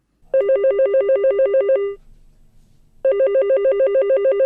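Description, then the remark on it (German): A telephone rings in two loud, rapid trilling bursts, each lasting over a second, separated by a short pause with faint background hum; the ring is clear. It is a call coming in at a telephone crisis helpline in Düsseldorf, Germany, at 10 p.m. “Dienstbeginn. Sofort ein Anruf.”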